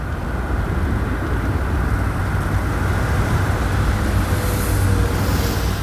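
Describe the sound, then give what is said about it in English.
Steady low engine and road rumble of a car driving, continuous and fairly loud throughout, with no voices. “Is that why you drive this car?”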